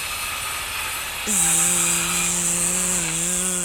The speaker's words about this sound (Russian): Это строители дорогу ремонтируют. Динь-дон, бум-бум, динь-дон, динь-дон.